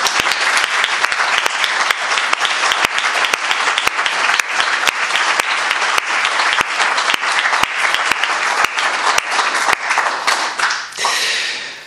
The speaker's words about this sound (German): Und ich denke, wir können den ausscheidenden Kirchengemeinderäten und auch allen, die weitermachen, einen kräftigen Applaus spenden.